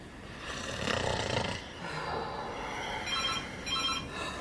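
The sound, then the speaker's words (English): A man snores loudly in rough, rasping breaths at 2:30 in the morning, with a faint electronic phone ringing briefly joining in near the end. “He's snoring ever so loud.”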